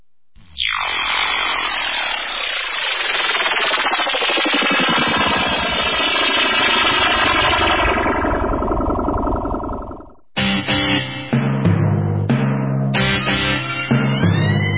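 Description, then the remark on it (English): A loud, buzzing drone roars close overhead, its pitch sliding downward as it passes, then gives way to a few punchy, rhythmic musical hits near the end. “The drone shall set you free!”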